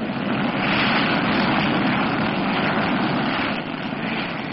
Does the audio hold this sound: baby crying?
no